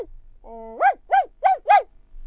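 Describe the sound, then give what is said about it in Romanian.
A dog, Patrocle, lets out a short drawn-out whine, then four evenly spaced barks in quick succession, ringing out far away in a forest against a quiet background. “Se auzi glasul cățelului răsunător departe în pădure.”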